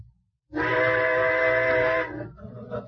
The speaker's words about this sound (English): What was that? Trains. I suppose they're gonna blow all night now. Well, go ahead, blow.